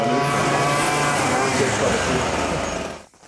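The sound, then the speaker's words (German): A neighbor's lawn string trimmer runs loud and steady with a buzzing, high-pitched engine whine, then cuts off abruptly near the end. “Jetzt haben wir wieder einen Rasentrimmer.”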